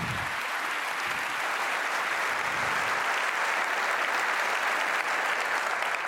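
An audience applauds steadily for about six seconds, a dense, even wash of many hands clapping at a constant moderate level with no voices over it.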